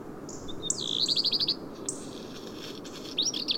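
A small group of birds on a rocky slope among alpine peaks in winter trill and chirp in brief bursts, including a quick run of repeated notes, over a steady low background hiss; no talking. The flock includes alpine accentors, black redstarts, chaffinches and a robin.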